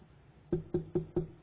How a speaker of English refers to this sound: Knock on your door. Yes, I'd like to talk to you about peace.